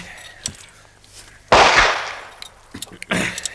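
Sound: gunfire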